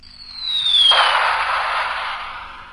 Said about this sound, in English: You got the bomb noise? Yeah, go.